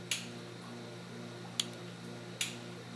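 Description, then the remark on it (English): Three sharp, crisp pops from a mantis shrimp in a lab aquarium strike at irregular intervals over a steady low mechanical hum, each snap bright and brief, the first slightly longer and crackly. “There are lots of crackles and pops, especially if people just fed them snails.”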